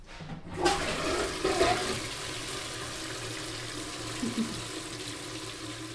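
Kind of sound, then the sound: household object, toilet flush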